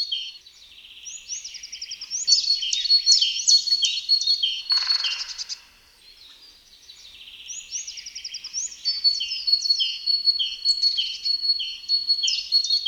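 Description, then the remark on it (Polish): A great tit sings its typical song: three-note whistled phrases, the first two notes higher and the third lower, repeated in two long, clear bouts separated by a short pause, with no voices present. “Typowa piosenka Bogatki składa się z powtarzanej długimi seriami sekwencji trzech gwizdów, z których dwa pierwsze są wyższe, a trzeci niższy.”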